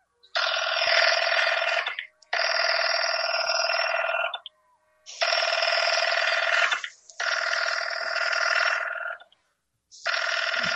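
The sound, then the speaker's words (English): A telephone rings in repeated long bursts, each about two seconds with short gaps between, loud with a bright, buzzing bell tone, as a call is placed to the police department. No one speaks. “Give me the police department. Ah! Ah! The police department. Ringing the police department.”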